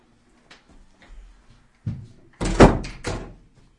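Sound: door being closed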